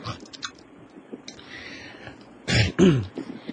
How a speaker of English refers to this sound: What's he doing? He's clearing his throat. I'm clearing my throat.